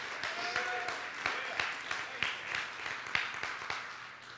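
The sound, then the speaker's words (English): A crowd of people clapping their hands together for God in a morning service, a steady, dense burst of applause, with sharp irregular claps layered over a continuous wash of clapping and faint voices underneath. “Give him a hand clap this morning.”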